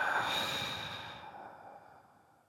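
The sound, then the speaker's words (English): A long, steady exhale through the mouth during a breathing exercise, after a deep breath in through the nose and a hold, a soft breathy rush that starts fairly strong and gradually fades away over a couple of seconds, with no talking. “close your eyes and take a deep breath in through your nose. Hold and release through your mouth.”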